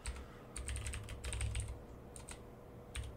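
Rapid typing on a computer keyboard, with bursts of sharp clicking keystrokes separated by short pauses, fairly quiet and with no one talking.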